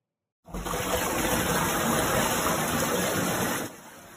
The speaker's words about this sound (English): That is an apartment in Manhattan as water rushes when the door opens.